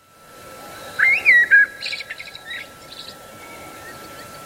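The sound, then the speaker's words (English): An alarm clock's bird-song setting plays, a bright warbling whistle followed by a run of quick, fainter chirps over a steady electronic hum, clear with no talking. “Why would you use the bird setting?”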